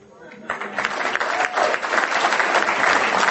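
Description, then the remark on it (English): An audience at an Alcoholics Anonymous talk breaks into applause for a speaker's 31 years of sobriety, the clapping starting quietly and swelling after a moment into a steady, dense wash of many hands that keeps building. “And you know who you're clapping for? You're clapping for Alcoholics Anonymous.”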